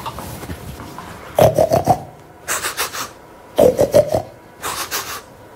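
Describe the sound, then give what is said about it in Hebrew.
A voice imitates Mr. Zigelboim's short, jumpy snoring: four quick rasping bursts, each broken into choppy pulses, alternating between a sharper, higher snort and a breathier rasp. “למר זיגלבוים, יש נחירות קצרות וקופצניות. זה הולך ככה.”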